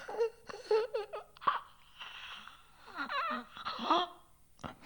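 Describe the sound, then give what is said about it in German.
A solo voice makes strained throat noises from the larynx: irregular gagging, croaking bursts and wet tongue clicks, with short gasping breaths between them and no words. “Kehlkopf würgen. Zungenschläge krächzen. Stimmband flattern.”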